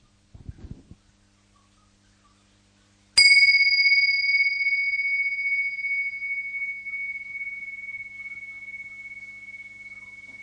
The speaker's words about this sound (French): Voilà, on va commencer avec un petit son de cloche, simplement pour démarrer par une présence tous ensemble.